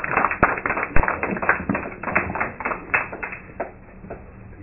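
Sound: audience applause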